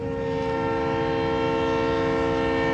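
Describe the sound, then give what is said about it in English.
A freight train on a revived rail line in the Eagle Ford Shale oil region of South Texas blares its horn in one long, steady chord over the low rumble and clatter of rolling rail cars, loud and unbroken throughout, with no voices. “The oil boom has brought a long dormant rail line back to life.”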